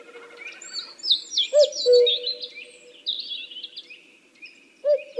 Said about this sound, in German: Das ist, ja klar, der Kuckuck. Der ist unser Frühlingsbote. Wer zum ersten Mal im Jahr den Kuckuck hört, muss mitzählen, wie oft er ruft. So viele Jahre sind ihm noch vergönnt, für was auch immer.